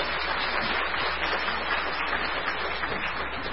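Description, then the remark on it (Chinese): Steady audience applause at a church, welcoming a guest speaker, fills the whole stretch, a dense, even wash of many hands clapping at once with no voices over it and no clear break or fade. “好，我们鼓掌欢迎一下好来。”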